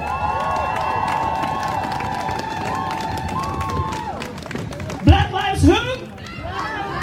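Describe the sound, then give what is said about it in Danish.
A crowd applauds and cheers in a steady, dense wash of clapping and voices, welcoming the next speaker, from Black Lives Matter, with a sustained high tone over the first half and a couple of loud shouts near the end. “Men nu står hun her i egen person, så giv en stor hånd til”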